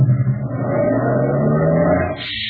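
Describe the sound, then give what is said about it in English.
A heavy truck engine is started in gear, its deep rumble climbing steadily in pitch as it revs for a couple of seconds before abruptly dropping away. “You'll step in front of the truck to unlatch the door, start your motor in gear, and duck.”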